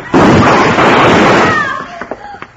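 A single loud gunshot fired by Hickok, who is fastest on the draw, bursts out and rolls into a long, noisy roar that fades over about a second, followed by a few faint clicks and brief tonal sounds.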